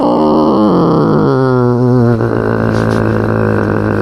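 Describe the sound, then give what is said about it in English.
A man's voice mimics his cats, Butter and Peaches, fighting behind the couch: one loud, unbroken yowling growl whose pitch warbles and slides up and down for about four seconds, with no other talking. “I have cats annoying me tonight.”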